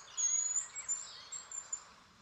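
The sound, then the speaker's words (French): Thin, very high-pitched calls of an unidentified bird repeat in a quick, uneven series, blending into a soft airy forest background, with no one speaking. “De petits cris très aigus qui se fondent dans la forêt.”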